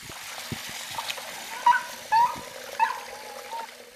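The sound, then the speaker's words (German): A steady hiss of water running into a large bathtub in a dog grooming salon, where a dog is being bathed, fills the background, while a dog gives several short, high-pitched whimpers. “Also viele Hunde haben Angst vor Wasserflussgeräusch.”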